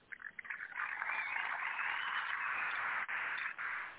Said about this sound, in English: Yeah, you notice there was an applause when Trump said it. Yeah. I left the applause there in.